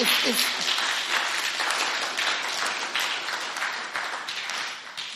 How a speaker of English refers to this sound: Are you understanding it? Yeah? Clap properly.